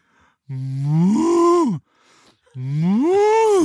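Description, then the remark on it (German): A person imitates a cow with two long, loud, drawn-out moos, each rising and then falling in pitch, separated by a short pause. “Sag mal, mach mal eine Kuh.”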